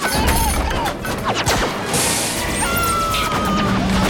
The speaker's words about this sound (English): Flashes of green Vogon fire rip through the caravan. Inside, everyone dives for cover.